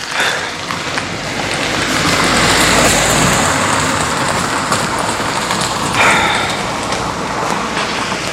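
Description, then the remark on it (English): A car passes by outside, its hiss swelling to a peak and easing off over a steady wash of rain-like noise. No one speaks. “Oh, there's another car coming.”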